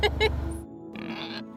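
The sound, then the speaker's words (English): A pig oinks and grunts in short, rough bursts, with a brief snorting squeal toward the end. “You think we could charge a service to have people come out and have a spa day with a pig?”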